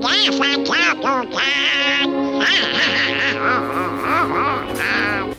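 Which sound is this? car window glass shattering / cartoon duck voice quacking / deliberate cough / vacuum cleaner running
cartoon duck voice quacking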